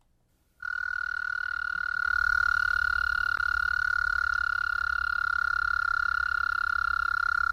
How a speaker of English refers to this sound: Practically, though, it was the call, you know, the windows open, could hear these toads, the loons calling. Yeah, the American toad is really getting his singing in.